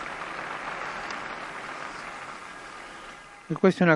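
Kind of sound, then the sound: crowd, crowd applauding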